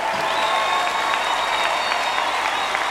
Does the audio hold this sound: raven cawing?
no